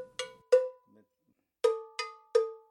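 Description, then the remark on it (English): A low-toned bell, one of about 30 bells of different sizes and shapes kept in a home in Caledonia, 20 minutes south of Milwaukee, is struck five times, two clanks, a short pause, then three more, each sharp metallic hit ringing out briefly before fading. No voices. “demonstrates some of the tones, high, mid-high,”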